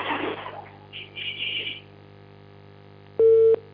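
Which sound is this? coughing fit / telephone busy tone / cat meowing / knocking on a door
telephone busy tone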